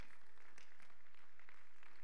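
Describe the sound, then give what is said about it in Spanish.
A church audience claps for the Lord Jesus after prayer in a dense, steady wash of applause, many hands overlapping with no clear rhythm, sustained and fairly soft for about two seconds with no voices. “Démosle un aplauso fuerte al Señor Jesús.”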